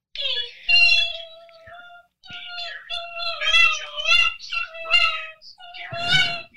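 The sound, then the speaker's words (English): A dog, the speaker's mother's dog, whines in a string of high, wavering, nasal cries over about six seconds, with short breaks between them and a louder, rougher whimper at the end. “That's my mom's dog.”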